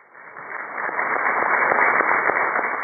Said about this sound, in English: Negotiators from both sides gave themselves a round of applause as they launched peace talks at a hotel in Caracas, Venezuela.